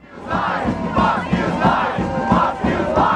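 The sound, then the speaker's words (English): A large crowd of protesters chants and shouts "Fox News lies" in unison, repeated roughly five times in a steady, insistent rhythm, loud and continuous throughout, shouting down Geraldo and his Fox News crew as they try to do a live shot. “I know that he was shouted down by a crowd that was yelling Fox News lies.”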